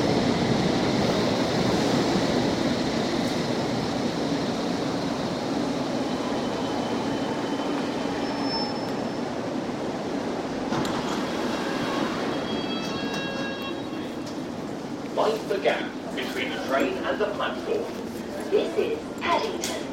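A steady, loud rumble fills a moving train carriage, broad and continuous like rolling wheels and wind, with some brief rattles and clatter rising near the end.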